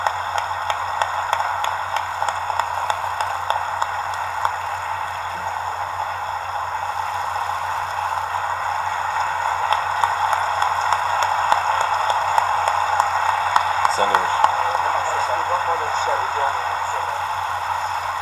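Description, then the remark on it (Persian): Sustained applause from an audience at the opening ceremony of the Fajr Film Festival, a dense steady patter of many hands that runs the whole length without a break, with a murmur of voices mixed underneath. “همیشه دست زدن از سر شادی نیست، گاهی اوقات آدم دلش میخواد از سر هیجان.”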